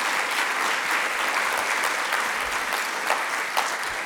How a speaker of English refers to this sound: And I'll introduce them just from nearest to me and along, Shane Maloney, Kate Grenville, Steve Carroll and Sonia Hartnett. Please give them a big, warm round of applause.